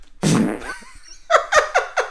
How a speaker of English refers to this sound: I don't know why the fart makes you laugh so much.